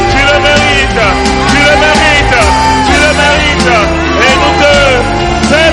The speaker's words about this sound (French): Nous t'acclamons, Seigneur, avec nos cris de joie, avec nos cris de reconnaissance.